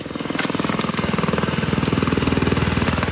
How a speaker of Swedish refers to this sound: Redan i sommar kommer hundratals ton vita gödselkulor att regna över skogar i norr. Och det är från en helikopter med gödselspridare.